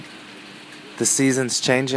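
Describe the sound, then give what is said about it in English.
Steady, even hiss of rain falling, alone at first and continuing as a quiet backdrop once a voice begins speaking over it. “Listen, it's raining.”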